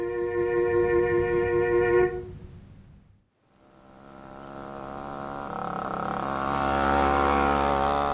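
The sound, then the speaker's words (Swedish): A small moped engine buzzes with a steady, droning whine, cuts out for a moment, then revs back up and grows louder, with no one talking. “hade en moped”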